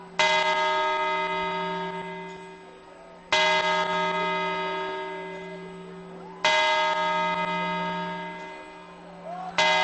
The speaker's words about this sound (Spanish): Primera campanada. Canta la gente en la Puerta del Sol, la sexta. Séptima campanada, la gente móviles en la mano, tomando las uvas, 7, 8.